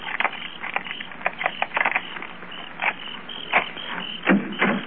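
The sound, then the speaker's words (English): Keys jangle and scrape in the lock of a house's locked back door, a run of irregular metallic clicks and rattles over a low hiss, with a few sharper, louder clacks near the end as the lock turns. “I'd like to try my keys first.”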